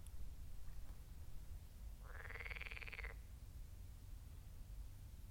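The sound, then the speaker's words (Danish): A group of noisy frogs croaking by a lake in North Zealand, Denmark: one loud, buzzing, rapidly pulsed call lasts about a second mid-clip, with fainter calls over a steady low outdoor rumble. “En flok støjende frøer ved en sø på Nordsjælland.”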